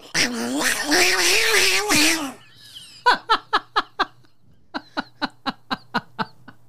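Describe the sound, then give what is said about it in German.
A person imitates fighting cats with a loud, wavering, strained yowl lasting about two seconds, followed by two runs of short rhythmic bursts of laughter. “Kann sehr gut kämpfende Katzen machen, Leute.”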